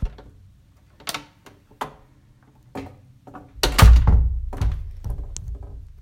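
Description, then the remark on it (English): A door thuds shut with a heavy impact, followed by metallic clicks and rattling as a lock is turned, preceded by a few scattered knocks and taps. “Why did you close and lock the door?”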